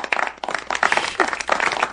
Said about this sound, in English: You guys have acted like dicks all night long. Oh, you're applauding that? Wow, you're applauding that.